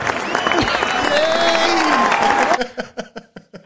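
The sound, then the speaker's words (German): An applause sound effect played from a soundboard on a recording desk: a burst of crowd applause with cheering and whistles fills the first two and a half seconds, then thins into a few scattered, separate claps that fade out. “Ja, ich werde sie benutzen, man kann hier so Geräusche tippen. Without further ado, ja, bitte großen Applaus”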